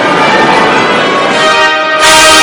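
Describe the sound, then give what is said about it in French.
Abbey church bells peal loudly and continuously in the morning, greeting the arrival of the royal groom and his brother at a royal wedding, their overlapping tones ringing out together, with a broad wash of crowd noise swelling near the end. “l'arrivée du prince William en rouge et de son frère et témoin, le prince Harry”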